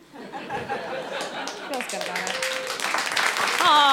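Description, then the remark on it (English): An audience claps in a scattered, crackling burst, mixed with laughter and overlapping voices, the noise swelling louder toward the end. “I'm sorry, I could your plugs, I could have ended with applause, and I stepped on it with all my stupid comments.”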